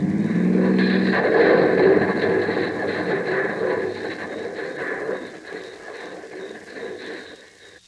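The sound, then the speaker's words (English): A car plunges over a cliff: a brief engine whine gives way to a loud, rumbling crash that churns on and slowly fades over several seconds, with no voices. “Over the cliff you go, baby.”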